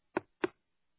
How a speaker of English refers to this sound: I know you can't do it now because of COVID, and we've cut a lot of that back, but I went visiting, knocking on doors, and I knocked on doors.